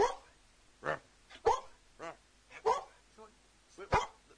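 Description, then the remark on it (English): A dog called the Wolf barks and yelps in the Shug FM radio studio in a string of short, loud bursts spaced about half a second apart, with a few softer whimpering whines between them. “They've got two Looney Tunes and a dog going, whoa, we've got a dog in the studio.”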